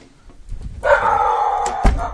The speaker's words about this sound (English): There's the dog across the street. Hi, dog. Actually, it's a next door neighbor. Not across the street.